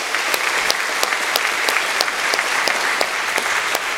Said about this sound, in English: I am grateful for all the children who attended VBS and led us in worship this morning. Again, let's give them a round of applause.